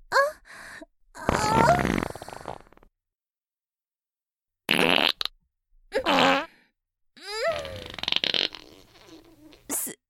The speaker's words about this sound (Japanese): 臭いおならが止まらなくなってしまいましたわ。これはさすがに恥ずかしいです。私、自分のおならですら制御できないなんて、シスターとして、女として失格です。